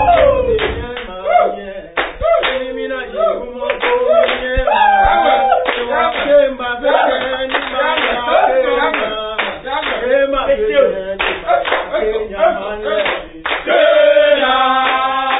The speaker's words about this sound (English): Ghanaians, mostly students, call this jama, that is singing to whip up morale and interest in a sport or any physical activity. This group of players does just that moments before starting a training game.